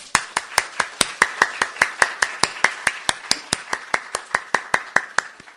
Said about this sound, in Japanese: それでは私たちを歓迎してくださっている主に感謝の拍手を持って礼拝を始めていきたいと思います。ハレルヤ。